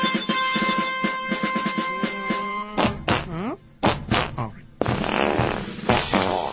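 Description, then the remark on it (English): A long, buzzy, sputtering fart sound effect plays loudly for a few seconds on The Stephanie Miller Show radio program, then voices take over, talking and reacting. “Yay for fart jokes.”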